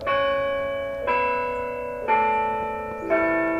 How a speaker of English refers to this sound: A bell tolls from the old limestone Emmanuel Lutheran Church in Comfort, Texas, about 50 miles northwest of San Antonio.